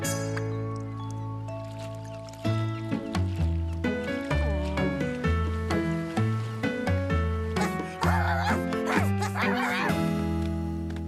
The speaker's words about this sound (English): Dogs sure do have a lot of fun. Yes, their lives are pretty carefree. Chore-free, too.